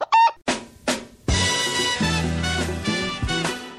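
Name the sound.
hens clucking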